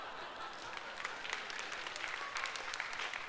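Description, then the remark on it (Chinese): A crowd applauds steadily, many hands clapping in a dense, crackling wash that holds at an even moderate level throughout, with no voices on top. “你们还可以拍手啊。”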